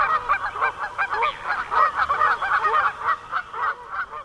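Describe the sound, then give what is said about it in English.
A flock of Canada geese honks continuously, many overlapping nasal calls in a busy, steady chorus, with no talking. “He's referring to the rapidly growing population of non-migratory Canada geese that have taken up residence in our parks and golf courses.”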